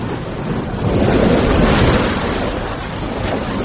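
sea waves and wind

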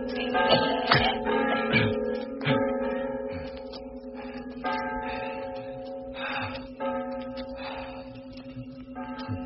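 church bells ringing

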